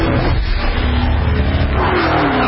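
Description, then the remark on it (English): A powerful supercharged V8 engine in a Dodge sedan roars and revs loudly, a dense continuous growl whose pitch climbs toward the end, with a hint of tire noise and no talking. “If you think putting a supercharged V8 in a sedan is crazy or just plain wrong, well, we've got news for you.”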